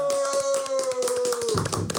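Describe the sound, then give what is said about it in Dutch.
Applause from a crowd: steady, fairly loud clapping beneath a held tone that slowly drops in pitch and fades, after which the clapping grows denser and rougher. “Applaus, dames en heren.”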